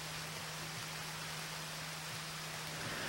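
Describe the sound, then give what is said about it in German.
Steady, soft rain hisses continuously throughout, a fairly quiet, even wash of falling water with a faint low hum underneath and no voices. “Doch mir wäre auch ein Zelt lieber gewesen als der Regen.”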